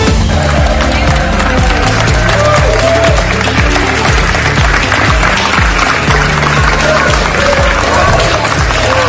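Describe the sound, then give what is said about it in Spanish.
A large crowd at the Venice Film Festival gives Pedro Almodóvar a 17-minute ovation for his film La habitación de al lado, a dense, sustained wave of clapping that stays loud and steady throughout, with occasional cheers rising above the roar of hands. “Y así hasta 17 minutos, que es lo que duró la ovación a Pedro Almodóvar en el Festival de Cine de Venecia, donde ayer presentó su última película titulada La habitación de al lado.”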